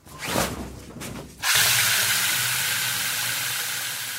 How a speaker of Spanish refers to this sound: Y al ducharte, cierras los ojos y la boca fuertemente para que no te entre agua contaminada que sale de la alcachofa de tu ducha.